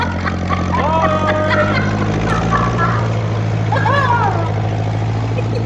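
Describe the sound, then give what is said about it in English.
A tractor engine chugs in a loud, steady low drone throughout while a person talks over the rumble. “I've just climb up on this tractor here, he said, doing his audition.”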